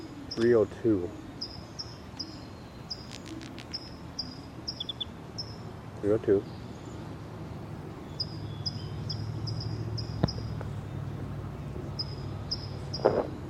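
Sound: birds chirping outdoors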